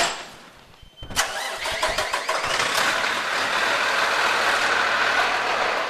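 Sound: fire truck engine starting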